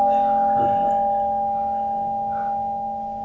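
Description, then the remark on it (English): A single softly struck bell rings out with a clear, sustained tone that slowly fades away over a few seconds, heard on its own without any talking. “My brother, will you give me a ring of the bell? Wow, how about one more, a little softer?”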